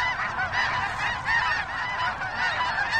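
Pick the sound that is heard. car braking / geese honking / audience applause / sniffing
geese honking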